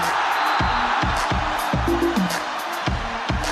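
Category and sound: crowd, stadium crowd cheering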